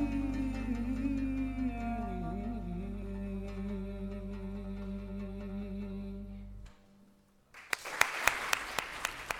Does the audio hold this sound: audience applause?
yes